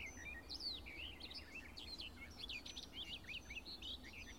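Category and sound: bird, songbird singing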